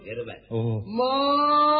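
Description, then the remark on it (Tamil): A man's voice imitates a buffalo and then a cow in turn, giving a deep, gruff moo and then a longer, steadier moo held to the end, loud with no other sounds. “சரி சரி, எரும் மாடு மாறியா பசு மாடு மாறியாங்க? நீங்க கத்துங்க, நாங்க புரிஞ்சுக்கிறோம்.”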